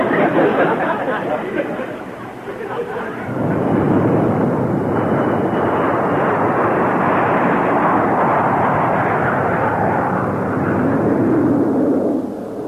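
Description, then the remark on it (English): A steady, loud airplane engine drone fills the whole stretch, a dense rumbling roar heard from inside the cabin of a plane in flight, with only slight swells in level. “If I didn't know I was in a plane, I wouldn't even know I was flying.”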